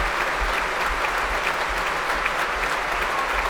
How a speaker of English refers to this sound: I mentioned before how often she played with the BBC Scottish Symphony Orchestra and they really are giving her a great big clap.